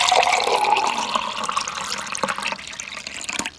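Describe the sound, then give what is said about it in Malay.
Sugarcane juice pours steadily into a container, a continuous splashing stream that gradually thins, with a few small gurgles toward the end and no voices. “Sebelum aku menyampaikan maksud kedatanganku padamu, putri, minumlah air tebu ini. Air tebu ini aku buat khusus untukmu.”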